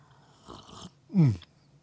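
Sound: sipping hot coffee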